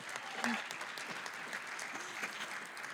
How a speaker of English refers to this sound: Anti-War Committee, everyone give them a round of applause. They're so cool.